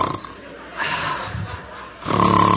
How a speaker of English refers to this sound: With every snore, I put my hand over the mouthpiece. I said, did you hear that noise in the background? He says, I did, actually. I said, oh, it's my wife's teddy bear. It always snores when the dog barks.